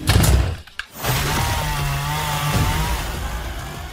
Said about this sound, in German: Ja, akustisch klingt das schon mal sehr beeindruckend und das sieht im Film auch sehr beeindruckend aus, wenn seine Arme sich zu Kettensägen verwandeln und vor allem auch aus seiner Stirn eine Kettensäge rausschießt